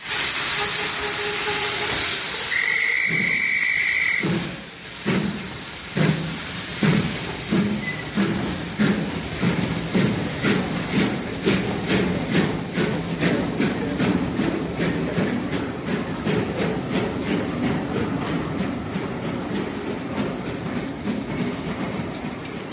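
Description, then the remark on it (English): A train, the next train to Paris, hisses with a burst of steam, then moves off with a steady clickety-clack of wheels over rail joints, the rhythmic clatter continuing loud with no voices. “I should have been on that train.”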